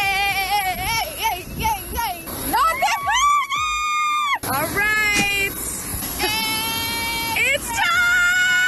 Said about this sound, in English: You can hear the squealing as she and her girlfriends, including Kylie Jenner, got onto their private jet to go to Vegas.